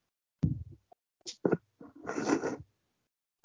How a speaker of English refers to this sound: So, excuse me, guys. Just sitting there sneezing. My bad.